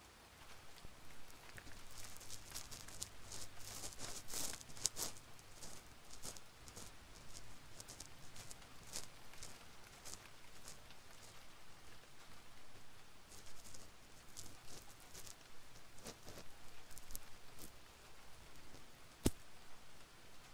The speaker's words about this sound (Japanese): あれ、雨降ってきましたね。さっきまであんなに快晴だったのに。でも突然降ってきたってことはすぐ止むかもしれませんね。